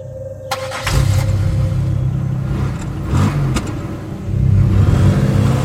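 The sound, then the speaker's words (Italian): Steady, fairly heavy traffic noise on Knoxville Road, with engine rumble and a few louder swells as cars drive past, continuous throughout with no voices. “Il traffico è abbastanza intenso e le auto passano senza far caso a un dettaglio di quella macchina parcheggiata.”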